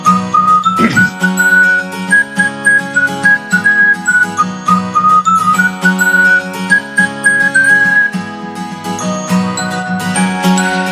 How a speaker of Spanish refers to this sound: Ay, cómo me gusta ese silbidito ya indica que estamos en fin de semana